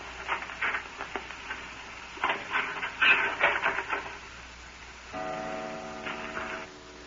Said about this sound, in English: The clock just struck one, Professor.